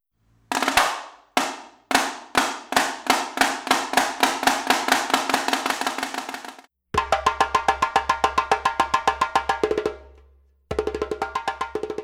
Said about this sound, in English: Percussion. The snare drum and the djembe.